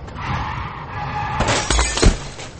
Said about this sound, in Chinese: 公交车随车流缓缓前进，忽然司机一个急刹车，公交车的车头和前面一辆大奔的后屁股来了一个亲密接触。